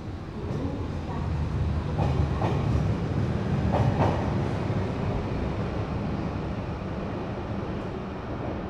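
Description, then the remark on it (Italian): A yellow-line metro train heading to the Duomo rumbles steadily along the tracks, loud, with a cluster of rattling clacks in the first few seconds before settling into a continuous roar. “Prendiamo la linea gialla della metropolitana fino al Duomo.”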